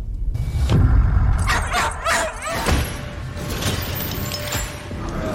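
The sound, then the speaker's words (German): A dog in a family scene from the horror film Good Boy gives a few sharp barks and yips, with brief whimpering between them, over a steady background hum and a low rumble. “Was hier so ganz idyllisch beginnt als Familienszene mit Hund.”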